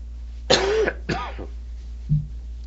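Two harsh coughs in quick succession from a person with a cold, followed a moment later by a short, low throat-clearing grunt, with a steady low hum underneath.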